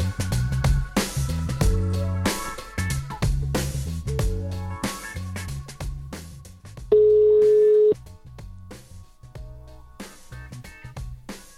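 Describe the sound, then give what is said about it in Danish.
Rhythmic music with a heavy beat plays, then a single loud, steady ringback tone of an outgoing phone call from the show What to Watch to a listener cuts in for about a second before the music resumes. “Det er Kasper Christensen og Maria Monson, der ringer til dig fra What to Watch.”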